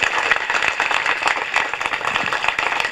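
An audience applauds steadily for the full three seconds, a dense wash of many overlapping hand claps at a fairly loud, even level with no talking.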